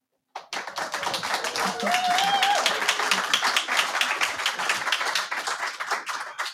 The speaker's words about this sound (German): Und an unsere Zuhörerinnen, nein, der Applaus ist nicht eingespielt. Wir sind hier in der Aula der Volkshochschule Reutlingen und freuen uns wahnsinnig, hier sein zu können.